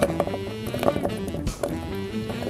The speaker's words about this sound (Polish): Obrane ziemniaki kroimy w kostkę wielkości paznokcia. Pokrojone ziemniaki przerzucamy do garnka